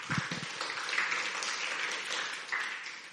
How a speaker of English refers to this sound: Yes, thank you, worship team. Let's give them another big hand clap.